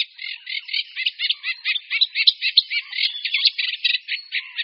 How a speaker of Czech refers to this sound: Zpěv rákosníka obecného není příliš líbezný. Skládá se z různých skřípavých a vrzavých tónů, které sameček přednáší buď v sedě